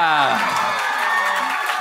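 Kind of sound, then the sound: crowd, crowd applause and cheering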